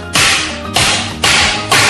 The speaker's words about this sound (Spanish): Unos golpes con un cuchillo ancho.